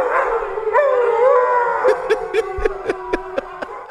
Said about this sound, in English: I always think it's so great when dogs respond to their owners or to something cool by singing along and howling along.